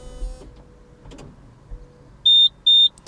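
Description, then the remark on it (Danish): Mechanical whirring and a few soft clunks as a car's convertible roof, which comes out of the trunk, closes into place, then two loud, evenly spaced electronic beeps signal that everything is in place. No talking. “Og de to sidste biplyde indikerer, at nu er det hele på plads.”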